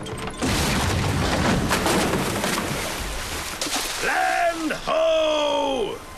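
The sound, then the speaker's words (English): In a Shrek film scene, a wooden ship crashes onto a rocky coastline with a loud, sustained rumble of smashing and splintering timber lasting a few seconds, followed by drawn-out groaning cries that rise and fall in pitch. “The ship heads towards the rocky coastline. Shrek tries in vain to steer using the broken wheel. As they crash, timber flies through the air.”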